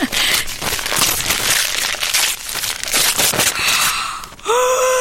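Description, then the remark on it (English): Loud, busy crinkling and tearing of snowman-patterned gift wrapping paper in rapid bursts for several seconds as a present is unwrapped, followed by a short voiced exclamation at the end. “Oh, nice paper, snowmen. Oh, you've wrapped it well.”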